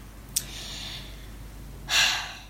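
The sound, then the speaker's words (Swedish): A deep, dramatic breath: a sharp, airy inhale that draws out for most of a second, then a short pause and a heavier, breathy exhale, with no talking. “Nej, jag måste bara andas, för det känns lite jobbigt att man inte...”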